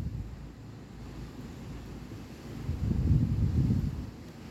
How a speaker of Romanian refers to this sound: Ascultă valurile și lasă apa sărată și curată de mare să te spele.